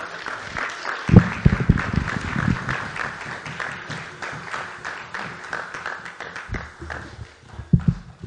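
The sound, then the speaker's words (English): An audience claps steadily for a new deacon being offered the right hand of fellowship, a dense, continuous wash of applause with a few cheers and whoops rising over it, lasting about eight seconds. “You guys can cheer for him as well.”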